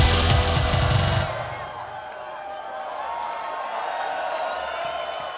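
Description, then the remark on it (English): A large crowd at a live club night at Printworks in London screams and cheers in a sustained roar, following a brief burst of loud, bass-heavy music at the very start. “Say Rio, Rio. Yo, scream.”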